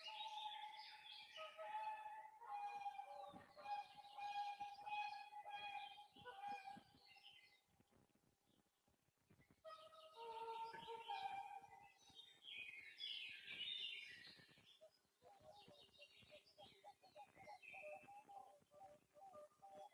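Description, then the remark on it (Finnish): Black-throated loon calls in a field recording: long, steady wailing tones held for several seconds, surrounded by a dense chorus of chirping songbirds and brief twitters, with no talking. “Laitetaan vielä toinen kuikka äänite tähän perään.”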